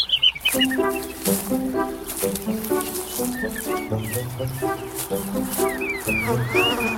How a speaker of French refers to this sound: Oui, les oiseaux, on est chez vous. Là, ils sont ah bah, puis on est chez eux, hein, c'est pas l'inverse.